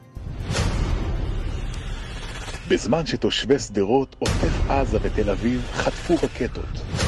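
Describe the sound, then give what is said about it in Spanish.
Heavy booming and rumbling blasts roll on loudly and continuously, rocket fire from the Gaza Strip and explosions in a video released by the Atzionut Adatit party against Bennett, while voices shout over the din in the middle stretch. “difundió este fin de semana un video en contra de Bennett, con las imágenes de la semana anterior, los cohetes desde la Franja de Gaza, la violencia en las calles de Israel y fuego, mucho fuego, se escucha el siguiente mensaje.”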